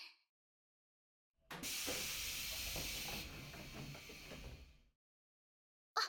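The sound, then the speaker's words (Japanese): A train door opens with a loud pneumatic hiss lasting about three seconds, sharp at first then easing into a softer rush with low mechanical rumble, followed by a brief click. No one speaks. “一回開いた。”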